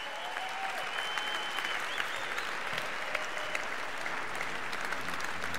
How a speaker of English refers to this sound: So thank you guys for coming up here. Give these guys a round of applause.